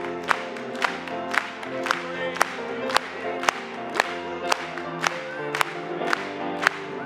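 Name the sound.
audience clapping along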